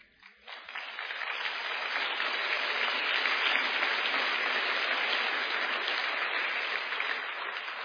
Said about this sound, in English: I don't usually get applause, so I'm going to quit while I'm ahead.